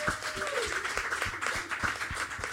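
An audience applauds steadily, a dense wash of many hands clapping with sharp individual claps poking through, sustained and fairly loud throughout, with no speech over it.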